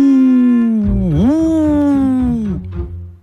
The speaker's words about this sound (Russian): Вдруг слышит Ойка, кто-то в лесу воет.